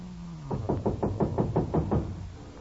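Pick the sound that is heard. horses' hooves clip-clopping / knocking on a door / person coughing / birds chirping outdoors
knocking on a door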